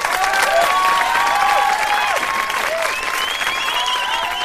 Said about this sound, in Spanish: Y este aplauso, Yolanda, es para la felicitación y también para darte las gracias